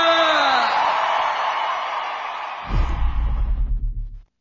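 A loud crowd roars and cheers with a few whistles rising over the din, then a deep, pulsing thump cuts in beneath it before everything stops abruptly.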